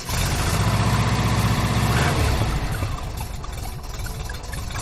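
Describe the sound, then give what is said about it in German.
The 2-litre engine of a 1980 VW T3 Bulli van runs steadily, a loud, low chugging idle with a rhythmic rattle that eases slightly after a couple of seconds, with no voices. “T3-Bulli mit einem 2-Liter-Motor, Baujahr 1980, so ein richtig schöner Oldtimer.”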